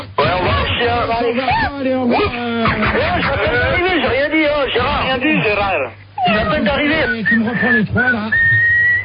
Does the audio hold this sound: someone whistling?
yes